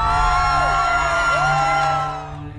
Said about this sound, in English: You see people going out and giving the rock star treatment and fawning and fainting and screaming and everything when a pope goes by. I mean, he's just a man.